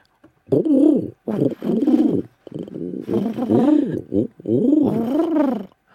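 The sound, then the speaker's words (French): A human voice imitates a pigeon's cooing, giving several throaty, warbling coos in a rhythmic series. The voice is fairly loud, with short pauses between the phrases. “Le pigeon.”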